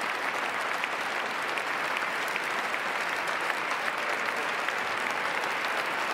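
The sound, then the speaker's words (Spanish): Sustained crowd applause, a standing ovation during a speech, a dense steady patter of many hands clapping at an even loudness throughout, with no voices standing out. “Minuto de aplausos. Minuto de aplausos.”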